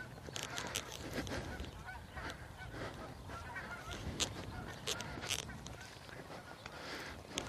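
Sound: geese honking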